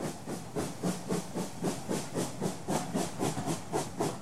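A steam train chugs along with a steady, rhythmic clatter, about three beats per second, over a constant bright hiss of steam. No voices.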